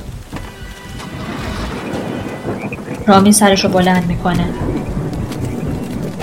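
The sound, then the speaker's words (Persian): A steady rainstorm roars throughout with low rumbles of thunder, while a man speaks briefly over the downpour near the middle. “فقط طوفان قورباغه و ماهیه.”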